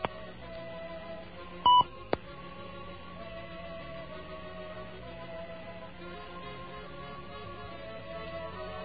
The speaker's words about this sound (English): It's possible that our nice new phone system here doesn't produce the tones long enough for it to be heard. So let's give it another try.